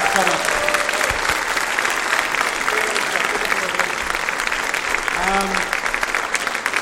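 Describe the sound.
A crowd at a live show claps steadily for a departing guest in dense, sustained applause for several seconds, with faint voices and a few cheers mixed beneath the clapping.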